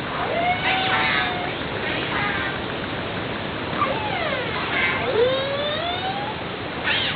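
Killer whale calls recorded underwater: several squealing, siren-like tones sweep up and down in pitch, some rising, others falling, over a steady wash of hissing underwater noise.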